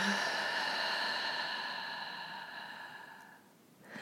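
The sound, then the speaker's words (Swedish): A long, slow exhale through the mouth during a breathing exercise, a steady airy whoosh lasting several seconds before tapering off, followed by the start of a fresh breath in through the nose. “Och släpper långsamt ut genom munnen.”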